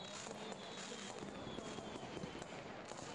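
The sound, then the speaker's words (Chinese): Distant fireworks from a display crackle and pop in a steady, dense barrage, heard faintly from a dark alley through a broad hiss of background noise with scattered sharper bursts, while the crowd is still watching. “但你看他们烟花还没放完，他们都还在看呢，还没散场呢。”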